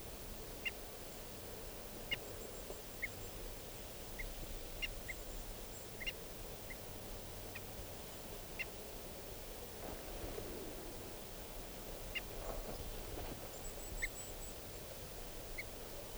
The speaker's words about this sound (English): These are the alarm calls of the decoys.